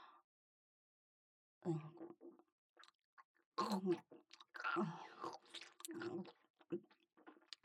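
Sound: chewing mouth sounds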